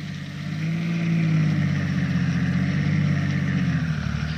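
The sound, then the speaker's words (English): A press car's engine runs steadily, a low droning hum that swells slightly after the first second and holds constant, with no voices over it, as the car turns off a shell-pocked main road and jolts towards the hamlet of Caude, on the way from Zaragoza towards Teruel. “At noon, the press cars turned off the shell-pocked main road and jolted towards the next little hamlet, Caude.”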